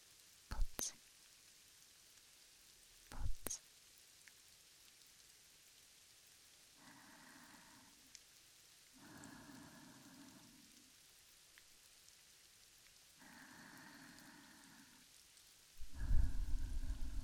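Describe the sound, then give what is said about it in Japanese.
A couple of sharp raindrop taps land a few seconds apart, followed by quieter, muffled murmuring bursts that recur in short stretches against a hushed background. “ぽつぽつ。”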